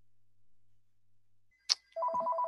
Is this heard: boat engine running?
no